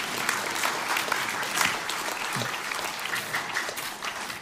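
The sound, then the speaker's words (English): Steady applause from an audience fills the whole stretch, a dense wash of many hands clapping at once with no voices standing out, holding an even level throughout. “I feel like you should clap.”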